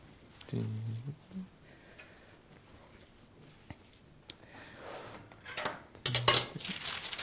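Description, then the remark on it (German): Dishes and cutlery clatter and clink in scattered bursts while food is being prepared, with a louder cluster of scraping and rattling near the end. A voice briefly murmurs in between. “Ich brauche das Geschirr drunter, bitte.”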